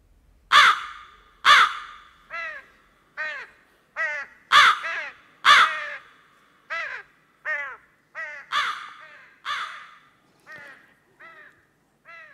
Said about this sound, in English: This could be the sound of a mother or a father crow warning the baby crows of impending danger. That's me walking along the road under the tree.